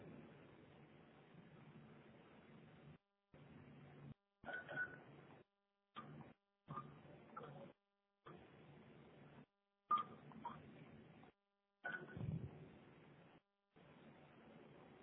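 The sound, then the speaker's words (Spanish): A string of telephone keypad tones entered one after another over a hissy, narrow phone line as a phone number is keyed into a voicemail system to leave a message, arriving in irregular short bursts separated by brief silent gaps, with no one speaking. “Por favor, ingrese el número de teléfono de la persona a la que desea dejar un mensaje y marque la tecla gato.”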